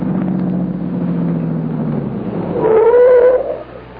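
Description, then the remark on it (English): A car rumbles as it pulls up, its engine droning steadily before a brief, high brake squeal as it comes to a stop, after which the sound drops away to a quiet idle. “Thank you, sir. Thank you for stopping.”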